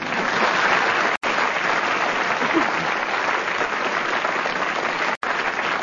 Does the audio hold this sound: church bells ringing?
no